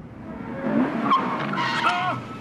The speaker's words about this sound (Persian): چی شد؟ اون موتوره.